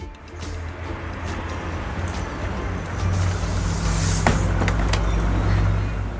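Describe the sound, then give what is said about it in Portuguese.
A bus engine rumbles steadily from the inside, a deep low drone with road noise and a few sharp rattles and hisses as it moves through traffic; nobody speaks. “Um dia, Pedro saiu com sua mãe e pela janela do ônibus foi observando as palavras nas placas”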